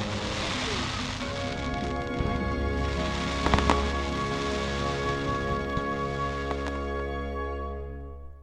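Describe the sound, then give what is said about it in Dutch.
A big fireworks display in a park in Sheffield booms and crackles, a few sharp bursts standing out over a steady wash of noise and a sustained droning tone, with a crowd murmuring in the background. “En toen zagen we met z'n allen het grote vuurwerk.”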